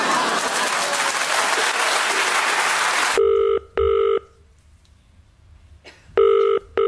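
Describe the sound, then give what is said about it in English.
A burst of applause-like noise cuts off abruptly, followed by a telephone ringing tone heard down the line in two double rings separated by a pause of near silence. “Good afternoon, you answered the phone very quickly and very efficiently.”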